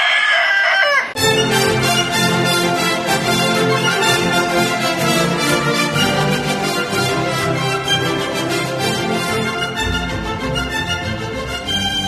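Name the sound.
rooster crowing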